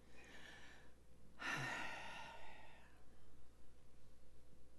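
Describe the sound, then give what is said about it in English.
Breathy airflow from a single person: a softer breath followed by a louder, rushed gasping breath, hurried shallow breathing, then quiet. No one speaks. “Shopping, shallow breathing in a hurry, kind of 21st century life breathing.”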